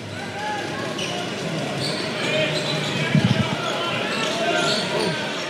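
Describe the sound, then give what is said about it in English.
Steady murmur of the crowd at a Sydney Kings men's National Basketball League game, scattered voices and chatter without loud cheering, with a quick burst of ball bounces partway through. “Listening to the crowd of the Sydney Kings game, you can hear they are struggling in drawing an average crowd of 4,000 last year.”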